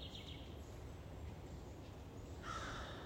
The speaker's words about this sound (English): Hi, crows. Two crows just landed on the wire in front of me. I've been looking to befriend crows. And I think these crows come to see me. They're so cool.